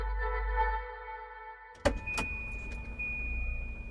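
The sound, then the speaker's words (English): A car pulls up and flashes its lights, its engine rumbling with a steady low hum, then a sharp clunk or two cuts in before the idling continues, with no one speaking. “As they cleared the last hurdle, a low fence, a car pulled up and flashed its lights.”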